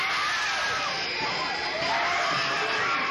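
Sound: audience screaming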